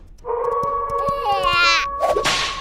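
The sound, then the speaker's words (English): Sharp whip-like cracks from a tail lashed like a whip snap several times over a high, wavering squeal, ending in a louder, noisy lash. “And using tail like crazy whip weapon?”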